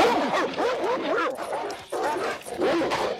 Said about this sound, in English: Where's the Dogs on Chains that we always play?